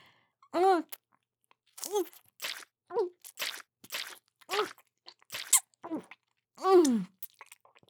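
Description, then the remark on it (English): A run of exaggerated chewing and gulping noises as someone swallows a whole load of lunch at once, about a dozen wet crunches and swallows in an uneven rhythm, several with a voiced, cartoonish tone as if a voice were performing them. “I just swallowed a whole load of my lunch at once.”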